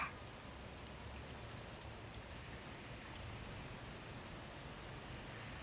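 rain falling

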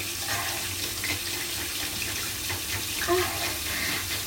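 shower water running

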